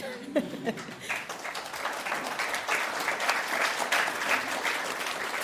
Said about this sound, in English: Some people are clapping, some are like, "I don't know. I don't know."